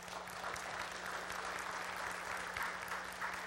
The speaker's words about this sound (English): Can you give the youth a round of applause this morning?